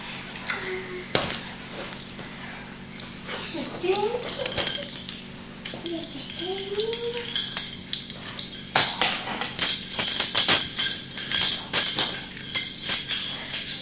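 A bunch of keys jingles, with bright, irregular metallic clinks and rattles throughout, while a soft voice murmurs briefly in the background.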